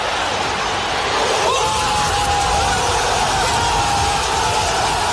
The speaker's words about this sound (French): Et donc, toi, t'es juste à côté. Et vous allez entendre la réaction des supporters marseillais. T'étais au cœur du COP.